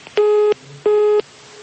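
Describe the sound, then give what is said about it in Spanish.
Two identical steady telephone busy tones after a dropped phone call, each about a third of a second long with a short silent gap between them, loud and clear over faint line hiss, with no voices. “No, se cayó la llamada.”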